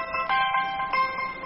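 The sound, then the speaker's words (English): A cell phone alarm ringtone plays a bright, chiming electronic melody, its notes pulsing in a quick repeating pattern with a couple of sharper accented hits, steady and fairly loud with no talking. “I think that's the alarm that's supposed to wake people up.”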